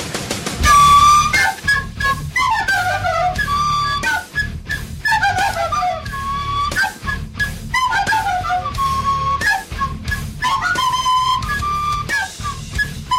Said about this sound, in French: Que se passerait-il si leur guitare était remplacée, disons au hasard, par des flûtes?